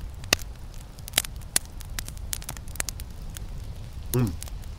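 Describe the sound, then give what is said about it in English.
Sips from a can of fizzy water: scattered sharp crackles and pops of carbonation throughout, then a short gulping swallow near the end, with no talking. “I'm probably not doing myself any favors by drinking carbonated water.”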